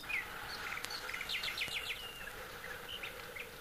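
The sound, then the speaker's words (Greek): Quick, high chirping bird notes in short repeated bursts over a steady hiss of outdoor ambience in a sunny garden with grass, flowers and tall trees, with an insect-like buzz running underneath; no one speaks. “Ο ήλιος λάμπει τόσο όμορφα και τα πουλιά τραγουδούν τόσο μελωδικά.”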